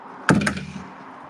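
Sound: door being opened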